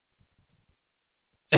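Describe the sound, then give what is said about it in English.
A single sharp, loud cough bursts out at the very end, cut off abruptly, after a stretch of near silence with only a few faint low thumps. “From my coughing, you can tell I didn't go get coffee.”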